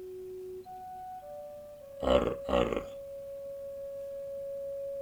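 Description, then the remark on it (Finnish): A text message notification plays as steady electronic tones stepping up in pitch, interrupted midway by two short rough vocal bursts, then a long sustained tone that holds to the end. “Tekstiviesti.”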